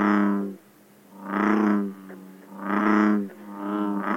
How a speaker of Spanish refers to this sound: Con ustedes, amigos que nos escuchan, la rana toro.